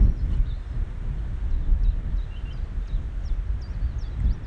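Distant chaffinch song, a series of thin, high chirps and short phrases repeating faintly throughout, nearly buried under a steady low rumble of wind buffeting the microphone.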